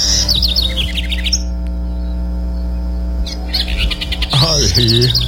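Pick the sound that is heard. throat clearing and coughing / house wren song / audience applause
house wren song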